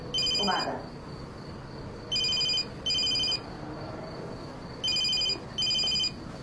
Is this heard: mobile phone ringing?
yes